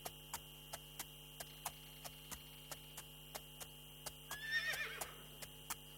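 horse whinnying

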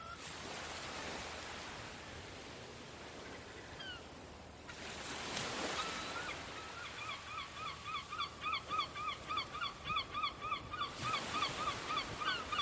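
waves reaching the coast

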